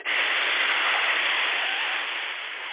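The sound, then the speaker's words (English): A person hisses to express a wave of pain: a single long, steady hiss of breath pushed through the teeth, loud and even for nearly three seconds, starting abruptly and easing off only slightly at the end, with no talking. “So if there was like a wave of pain rolling over me, I would hiss.”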